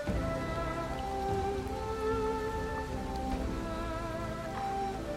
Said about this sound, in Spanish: Contemplas la lluvia cayendo. Observas las luces de los coches, reflejadas en los charcos del asfalto.